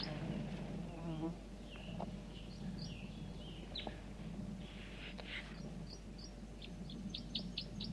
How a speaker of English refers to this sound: And then one male, that's him, is above me now. He gave a flight song similar to that song he's giving now.